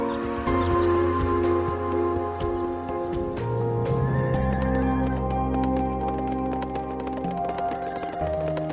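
A horse whinnies over a steady wash of sustained, chord-like tones and scattered percussive clicks, with the neigh rising briefly above the loud, continuous background.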